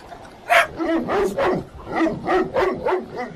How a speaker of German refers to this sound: Oh mein Gott, was ist denn das? Ein riesiger Hund!